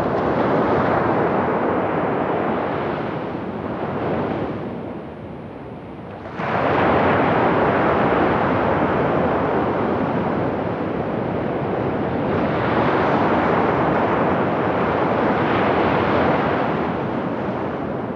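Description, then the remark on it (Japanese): Loud, continuous roar of ocean surf breaking on Arahama Fukanuma beach in Sendai, Japan, with wind buffeting the microphone; the surge eases briefly midway before rushing back in full. No voices. “仙台市荒浜深沼海岸です。”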